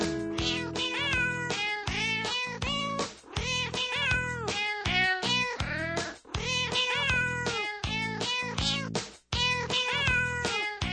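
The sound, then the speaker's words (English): A cat meows over and over in a steady, rapid string of loud, drawn-out cries, some overlapping, with brief pauses between bursts and no talking. “Greg Kokel giving you a piece of my mind today and a little piece of kitty action there.”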